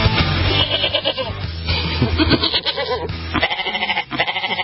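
A goat bleats loudly, a run of wavering, nasal cries that stretch across several seconds with short breaks between them and no talking.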